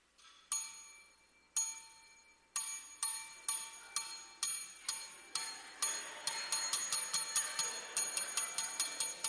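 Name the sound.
bell being rung repeatedly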